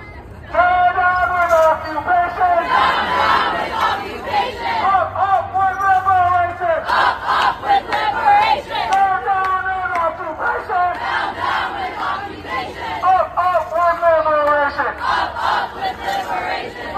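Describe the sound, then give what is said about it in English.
A large crowd at a pro-Palestinian rally in the United States cheers and chants loudly, many voices shouting in unison in repeated rhythmic bursts that rise and fall, continuing without pause for the whole stretch. “That's your cheering.”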